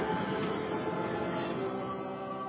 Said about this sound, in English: It was at the same time every Sunday. We felt the rattling from the trail of cattle cars, accompanied by the screeching of metal that would echo through our church walls.